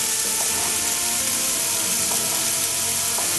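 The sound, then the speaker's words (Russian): Chopped onion, carrot and garlic sizzle steadily in hot oil in a heated frying pan, a dense, even crackle of frying that holds at a constant level throughout, with a few faint soft clicks and no voices. “Пока у нас лук с морковкой поджаривается, мы с вами нарезаем соленые огурчики.”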